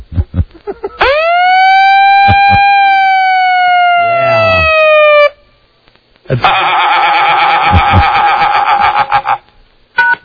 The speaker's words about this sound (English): Siren.